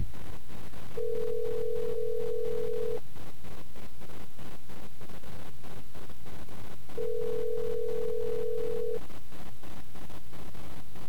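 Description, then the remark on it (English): A phone ringback tone sounds twice, each steady burr lasting about two seconds with a long pause between, clear over a busy background hum, while calling a phone that someone is leaning against. “He's literally leaning against the phone.”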